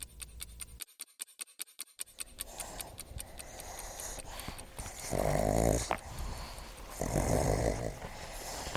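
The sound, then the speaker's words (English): Pugs snorting and snuffling as they play, play-bowing and sniffing each other: a quick rhythmic run of short, clicky snorts, then two louder, longer rasping snorts with scuffling in between. No one speaks. “The pugs are play-bowing each other, sniffing each other's butts, making noise as normal.”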